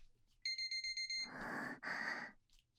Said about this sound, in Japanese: 性奴隷お仕置きタイマーなりました。